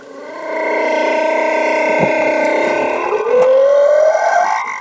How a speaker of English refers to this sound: I think that might have been the mating call of a humpback whale just slowed down a little.